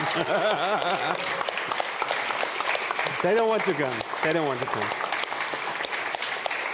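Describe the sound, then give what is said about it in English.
Steady, dense applause from an audience for the coffee team, thanking them for their support, fills the whole stretch, a continuous crackle of clapping while a man speaks over it, repeating a short phrase. “So this applause, these are applauses for you.”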